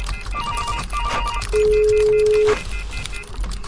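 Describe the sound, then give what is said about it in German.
A telephone rings with short repeated electronic pulses, broken by a steady held tone midway, all over a constant low background hum. No one speaks. “Schreiben, telefonieren, recherchieren.”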